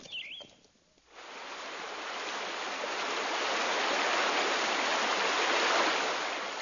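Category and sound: nature, flowing river water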